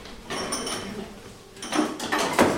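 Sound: kitchen drawer being opened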